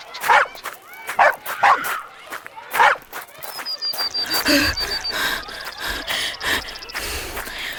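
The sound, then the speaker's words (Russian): A dog sniffs a mitten to pick up a scent and gives several short, sharp barks, spaced irregularly over a few seconds, before a busier wash of sound with a thin high whistle-like tone takes over. “И зачем собакам такой хороший нюх?”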